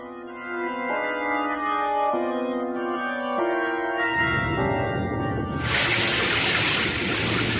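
nature, heavy rain downpour

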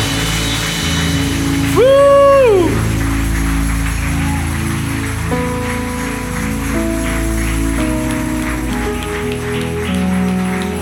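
crowd, audience applauding

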